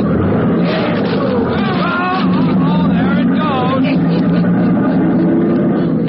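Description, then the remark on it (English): A little fire truck's engine roars steadily at speed on a short, wild ride through Plumville, loud throughout, while excited voices shout and whoop over the rumbling motor. “After a short but wild ride with Handy Hanks at the wheel of the little fire truck, they come to a careening stop in front of the Hancock Building, the block of stores comprising the main business center of Plumville.”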